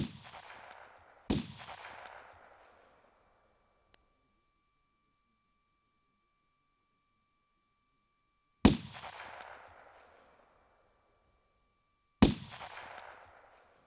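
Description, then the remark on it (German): Four loud gunshots ring out with echoing tails in a village centre at around 9 pm, coming from the church; the first two close together, then a long silence before two more, spaced a few seconds apart. No one speaks. “Januar 1914, als einige Dorfbewohner gegen 21 Uhr im Zentrum des Ortes mehrere Schüsse hörten, die von der Kirche herkamen.”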